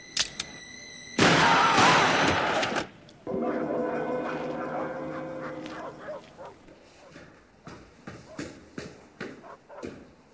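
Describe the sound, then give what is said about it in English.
A loud, harsh burst of noise is followed by a strained, tonal sound, then a rapid series of sharp gunshots cracks out irregularly, somewhat quieter than the opening blast. “We heard shots.”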